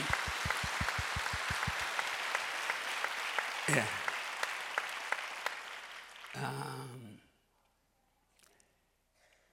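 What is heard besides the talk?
audience applause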